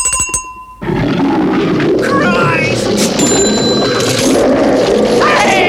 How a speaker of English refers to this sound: And finally, oh God, finally some eye drops being bought in the chemist just down the street by a Bengal tiger!